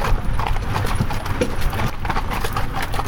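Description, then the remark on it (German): Steady clip-clop of horse hooves on a farm gravel track through tall cornfields during a horse-drawn ride, continuous, with a crunchy, gritty texture and a constant low rumble underneath, kicking up dust. “Wir fahren hier durch meterhohe Maisfelder auf einem Schotterweg.”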